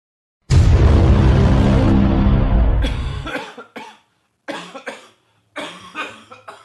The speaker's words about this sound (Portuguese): tá com nada grave não, né, …? É tosse.